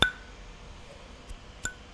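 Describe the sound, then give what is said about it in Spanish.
Three irregular fingernail taps on a hard surface, sharp and clicky with a brief bright ringing tone after the first and third; the opening tap is the loudest, with no talking. “Por ejemplo, si hago un tapping, yo no tengo muchas uñas tampoco, pero un tapping igual acá.”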